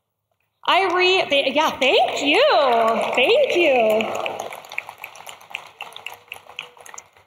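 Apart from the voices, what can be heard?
audience clapping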